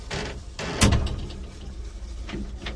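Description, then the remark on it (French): The door of a writing booth swings and shuts with a sharp thud as its magnetic catch holds, a single solid knock followed by faint rustling and quiet movement. “La porte ferme par un aimant.”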